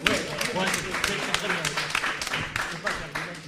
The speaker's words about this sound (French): Fabrice Collin qui n'a rien eu non plus, mais qui a fait La fin du monde, Le maître des dragons, La saga Mendelssohn, et La brigade chimérique, il y a une expo juste à côté, c'est une fort bonne BD, vous avez le droit de l'applaudir aussi.